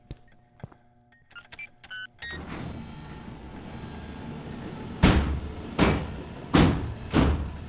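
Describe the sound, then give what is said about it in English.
A few electronic beeps give way to a steady mechanical whir of a heavy security door sliding, ending in four loud metallic clanks spaced about a second apart as it locks shut. “The security door is for your protection, as is this meeting.”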